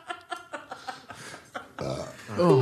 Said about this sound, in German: Ich unterdrücke meinen Rülpser mit Schlucken.